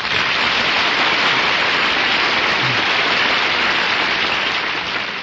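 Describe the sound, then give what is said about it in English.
A dense, steady wash of clapping from a large studio audience on The Big Show fills the whole stretch at a loud, even level, like sustained audience applause with no voices over it. “My goodness, that's the biggest round of applause I ever got.”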